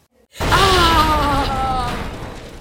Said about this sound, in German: Als der Polizist zur Unfallstelle ging, explodierte ein Zylinder vom Auto und schoss auf ihn zu.